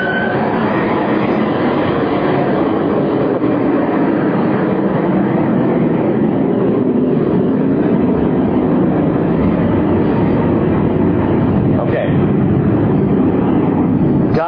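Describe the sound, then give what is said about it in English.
A jet roars overhead, a loud, steady, rumbling drone that fills the whole stretch without fading, with no one speaking over it. “As soon as this jet flies by, I have something very important to tell you.”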